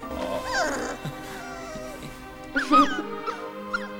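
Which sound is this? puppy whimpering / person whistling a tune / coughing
puppy whimpering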